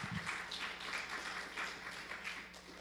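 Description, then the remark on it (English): An audience at a church service gives itself a clap offering, clapping together in a dense, steady patter of many hands that carries on at an even level for the whole few seconds, with no voices over it. “Why don't you give yourselves a clap offering as I share that with you.”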